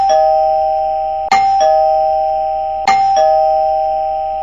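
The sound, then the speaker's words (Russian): A doorbell at an apartment door, rung several more times by a policeman standing on the stairwell landing, rings over and over, its steady bright tone hanging in the air while two sharp ding-dong strikes cut in about a second and a half apart. No voices are heard. “Милиционер сделал еще несколько звонков.”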